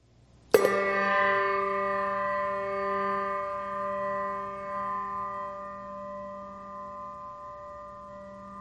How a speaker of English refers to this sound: You are invited to also name loved ones and others you wish to remember this All Saints. A final bell tolls for them all.